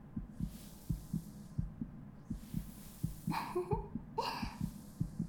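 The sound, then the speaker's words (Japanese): A muffled heartbeat thumps in quick lub-dub pairs that keep getting faster, with soft rustling and brief swishing noises above it; no one speaks. “あなたの心臓の鼓動、どんどん速くなっていくね。”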